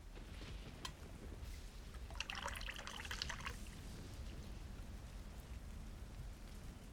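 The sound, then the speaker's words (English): Liquid pours into a cup for a little over a second, a bright splashing trickle rising over a steady background patter like rain. No one speaks. “Here, let me pour you another cup.”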